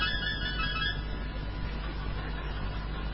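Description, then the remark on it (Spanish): A telephone rings briefly at the start, its tone fading within a second beneath a constant loud rumbling hiss, like traffic or a moving train. No one speaks. “Teléfono.”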